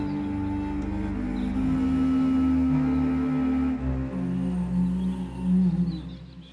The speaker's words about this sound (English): I can't move on land. I'm too big, moaned the whale.